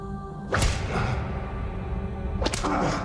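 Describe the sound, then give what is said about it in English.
Two sharp whip lashes crack out loud, spaced about two seconds apart, each a fast snapping strike on the back of an old man in bloodied clothing chained to a wall, over a steady low rumble with no talking. “A whip lashes the back of a man in bloodied clothing.”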